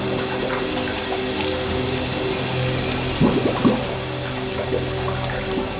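Water gurgles and fills in as a boat sinks after being rammed by another boat, with a steady low hum underneath and a brief burst of louder bubbling about halfway through.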